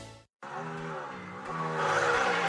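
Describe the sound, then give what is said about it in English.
A car engine roars loudly, its pitch climbing as it revs up after a brief silent gap, with a squealing, racing quality that builds toward the end. “You can't feel the roar of the engine through this.”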